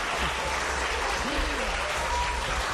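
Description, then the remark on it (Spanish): Sustained applause from a sizable audience at the inauguration of a school radio station, a dense, steady wash of clapping that holds at an even level throughout, with faint voices barely audible underneath. “Le vamos a dar las gracias con un aplauso, por favor.”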